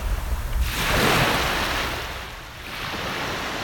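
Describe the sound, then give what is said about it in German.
Ocean waves wash onto a beach near Siesta Key, Sarasota, in a broad, hissing surge that swells and slowly recedes, with a steady roar of surf behind it and no voices. “Ich hörte dem Meeresrauschen zu und ließ mir die Meeresbrise um die Nase wehen.”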